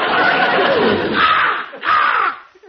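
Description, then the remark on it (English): Arnold, a talking crow, caws loudly and harshly, two or three raspy calls in quick succession, the last one trailing off, with no one speaking. “Hey, what's that? That? Oh, that's Arnold, our talking crow.”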